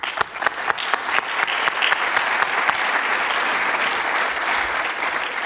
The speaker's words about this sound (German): Ich würde auch gerne ein paar von den Helfern, die super waren dieses Jahr bei dieser Konferenz, und die kriegen jetzt gleich nochmal einen extra Applaus dafür.